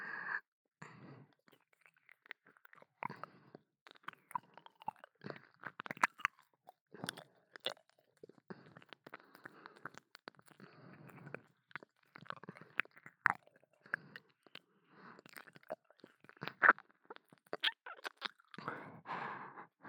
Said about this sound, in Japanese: このまま足でおちんちんいっぱいしながら、お耳もペロペロ続けちゃいますね。